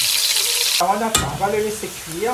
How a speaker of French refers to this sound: On va faire revenir, on va chauffer la marmite. La dinde, elle n'est pas grasse. Hein? On va laisser chauffer l'huile. Oui, un peu. Allez, hop. Écoute là.